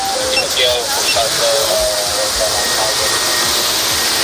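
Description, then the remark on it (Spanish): Firefighters' search drones buzz in a steady, loud motorized whine over a broad rushing hiss during a search operation by nearly 90 personnel for a missing man, their tones wavering and shifting in pitch throughout, with faint indistinct voices underneath. “Escuchamos los drones y el operativo de búsqueda de los bomberos, y es que ahora mismo casi 90 efectivos trabajan para encontrar al padre de ese niño de unos 11 años.”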